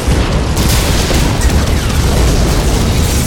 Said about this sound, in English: The ground shook beneath him. He tried to look up but could not, forced down by concussive force of explosion after explosion as the missiles reached the targets clustered around him, followed by secondary explosions